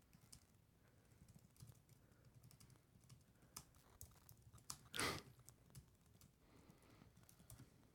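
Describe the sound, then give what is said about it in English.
Steady keyboard typing of a tweet with irregular clicks and clacks, including one louder, longer burst near the middle. Nobody talks over it. “How are you still typing?”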